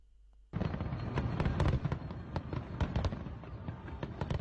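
A dense, continuous barrage of New Year's Eve (Saint-Sylvestre) fireworks bursting in France, with rapid sharp cracks and booms overlapping into a loud rumbling roar that begins abruptly and carries on without pause.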